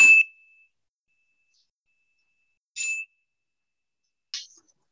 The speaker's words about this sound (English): We'll now have a moment of silent meditation, begun by the chime and ended by the chime.